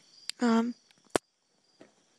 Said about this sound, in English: that's the puppy saying hello, I guess. As you can hear, she's happy.